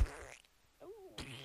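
A loud fart: a raspy burst, a brief squeaky wavering tone, then another sputtering blast, all in about a second and a half with no talking.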